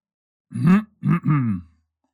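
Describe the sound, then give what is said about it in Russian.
A voice performs a gruff throat clearing: three short, low, voiced bursts, the first longer and the last two close together, with no words spoken. “Он прочистил горло.”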